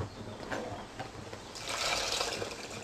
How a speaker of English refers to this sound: It's ready now for the water, and this is what it looks like. It's become a dry curry mixture. Now we add the water to create the gravy.